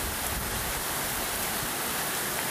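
heavy rain

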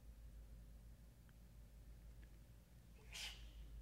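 sneeze

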